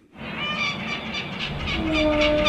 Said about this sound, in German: Möwen begleiten die Fähre aus Istanbul über das Marmarameer zur Insel Heybeli.